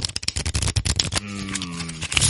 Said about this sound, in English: Now, according to the first rule, I've got to shuffle the deck, so... That's going to sound the best sound of this show.